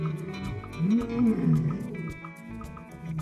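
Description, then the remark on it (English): A lion roars in deep, rumbling groans that rise and fall over a few seconds, loud, with no voices present. “A lion's roar can be heard over 5 miles away.”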